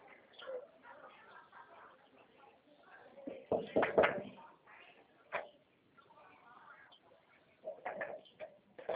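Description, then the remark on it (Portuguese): A door handle rattles and a latch clicks as a house door is tried by turning the knob and pushed open, with a few sharp clunks spread over several seconds and faint voices in the background. “Abre a porta, vê se tá aberta.”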